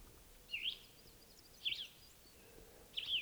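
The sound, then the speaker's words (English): A wild bird somewhere in the trees calls three times in short, bright, high-pitched bursts spaced about a second apart, with quiet background hiss between calls and no voices. “That wild bird's still here, somewhere in the trees.”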